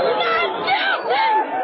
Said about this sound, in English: Oh, the jury's are coming out. A long 10 minutes pass, and then... Here the crowd is mostly jubilant.